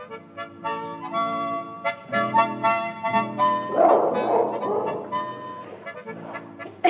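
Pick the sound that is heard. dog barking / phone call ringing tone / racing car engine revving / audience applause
dog barking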